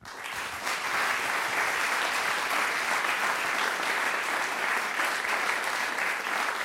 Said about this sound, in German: möchte ich Sie schon einmal um einen warmen Applaus für ihn bitten.